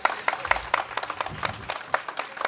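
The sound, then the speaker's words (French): Audience applause as a musician is invited to come up: a quick stream of sharp, bright claps at a moderate level, fairly steady with no single rhythm, over a faint low murmur. “Applaudissements, monsieur, dame.”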